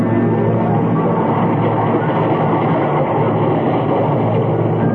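A train rumbles loudly and steadily at a railway station through the whole stretch, a dense continuous roar of rolling carriages with no voices over it.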